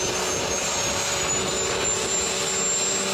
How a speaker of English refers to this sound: Makes the dyno do a burnout. Oh, shit. That one's pretty boring, the diesel truck. But that's a record.